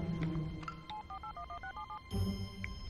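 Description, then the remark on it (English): A quick run of about nine short touch-tone dialing beeps on a telephone, evenly spaced and fairly clear, each a paired electronic tone, followed by a brief burst of line noise. “Just call her, ask her on the phone.”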